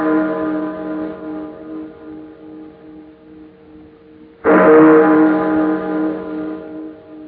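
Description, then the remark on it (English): Chimes ring late on Christmas Eve with a long, humming tone that slowly fades, then a fresh, louder strike lands near the end and keeps resonating. No one speaks. “And this is the first time I ever known them to ring late.”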